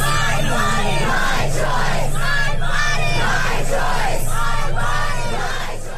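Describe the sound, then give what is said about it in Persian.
A large crowd of protesters in the streets of the United States, protesting a Supreme Court ruling on women's legal rights, chants the slogan "my body, my right" in unison, loud and rhythmic, with repeated shouted phrases rising and falling in regular bursts over a steady roar of voices. “آنها هم ساکت ننشستند، به خیابان ها آمدند و فریاد زدند بدن من حق من است.”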